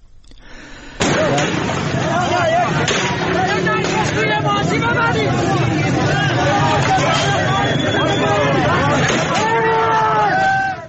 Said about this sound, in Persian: ویدیوهایی نیز از اعتراضات مردم در هفتجان در چهارمحال بختیاری منتشر شده که در آنها صدای تیراندازی و درگیری شدید معترضان و نیروهای امنیتی شنیده می شود.